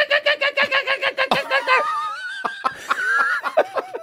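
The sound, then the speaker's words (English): A person imitates a kookaburra call: a quick run of rhythmic, laugh-like hoots that breaks into wavering, rising whoops, loud, with no other talking. “I can do the kookaburra.”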